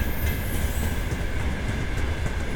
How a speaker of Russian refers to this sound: Замечательно звучат платформы, звучат замечательно просто несущиеся без груза. Слышится дух свободы и легкости. Они гудят радостно.